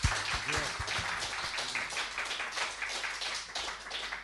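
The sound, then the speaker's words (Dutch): An audience applauds the performers steadily for a few seconds, a dense crackle of many hands clapping at once, with a few voices briefly calling out near the start. “Geef ze nog eenmaal een hartelijk applaus.”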